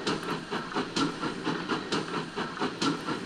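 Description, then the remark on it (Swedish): A steam locomotive chugs steadily, with rhythmic puffing bursts of steam roughly every half second over a continuous rumbling hiss, moderately loud, with no voices. “Man på lokomotivet sväver på ett handtag. Tuff, tuff, tuff, tuff, tåget går.”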